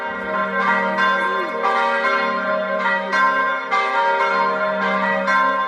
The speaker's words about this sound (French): Puis le dernier coup de canon se tait, laissant place aux cloches qui résonnent dans les villes et les villages.